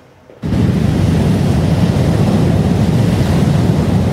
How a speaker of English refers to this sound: Storm watchers are gathering on the rocks in Tofino as monster waves smash the shoreline.